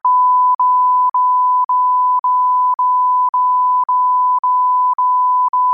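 A loud, steady censorship bleep tone, a single high pitch that runs for several seconds, broken by tiny gaps about twice a second so it sounds like a string of back-to-back bleeps, with no voices.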